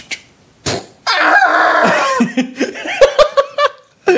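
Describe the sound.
A person vocally imitates someone actually attempting a video-game style rocket jump in real life: a couple of sharp bursts, then a long, strained, wavering cry that breaks into a string of choppy, clipped yelps.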